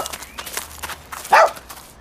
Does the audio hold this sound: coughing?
no